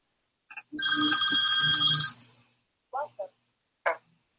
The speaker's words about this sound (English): In the meanwhile, I think, okay, let's click go. Start. And the phone is going to ring.